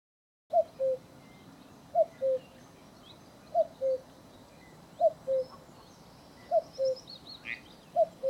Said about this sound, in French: Lui, il chante son nom. C'est facile, c'est le coucou.